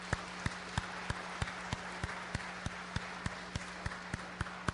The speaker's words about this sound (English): And we had over 70 people sign up to be involved in areas of ministry. And that right there deserves a huge hand clap.